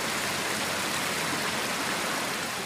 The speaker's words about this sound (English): The fluid getting the final treatment looks like river water flowing through a flat fountain bed. We're basically taking what nature does and we're doing it at a much higher and faster level.